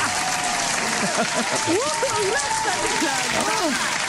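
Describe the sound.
A studio audience claps loudly and steadily, a dense wash of applause mixed with whooping, cheering voices that rise and fall throughout.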